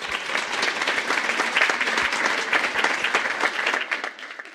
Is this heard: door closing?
no